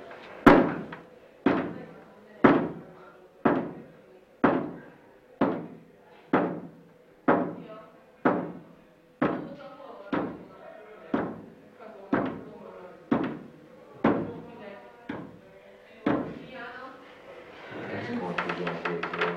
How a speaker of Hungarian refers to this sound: Emeld meg, tartsd meg ezt az asztalt. Létezik-e a Földön kívül valamilyen értelmes világ? Ha igen, akkor koppancs 17-et, ha nem, akkor 3-at.